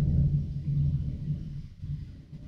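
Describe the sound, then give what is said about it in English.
A low, rolling rumble of thunder carries on steadily for a few seconds, deep and muffled with no sharp crack, swelling and easing slightly as it continues. “Lightning.”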